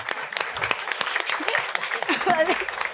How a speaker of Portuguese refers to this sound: Olha só, salva de palmas pro Chuck Norris.